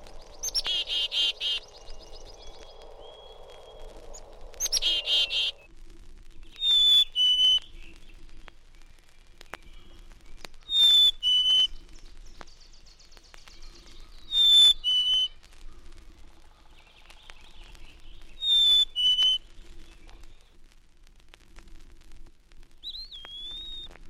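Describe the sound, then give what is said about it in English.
Black-capped chickadee's high, clear two-note whistled 'fee-bee' song, repeated four times at steady intervals of about four seconds, distinct, after a burst of buzzy chattering calls at the start. “Black-capped chickadee calls its name chickadee-dee-dee, but has a high, clear, whistled phoebe for a song.”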